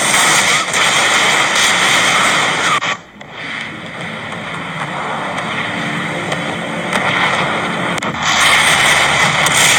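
Loud pyrotechnic explosions shooting out from the luxury booths of a football stadium boom and roar in a dense, continuous wash of noise, briefly dropping away before surging back and holding strong to the end.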